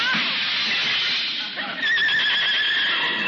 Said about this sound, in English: What's that? Heavenly days, a runaway horse in this day and age. Hey, it must have busted loose from a delivery wagon.